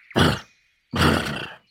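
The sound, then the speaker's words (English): Someone imitates a horse with two loud, rough vocal bursts, a short snorting grunt followed by a longer raspy whinny-like noise, separated by a brief pause. “You're making really good horse noises.”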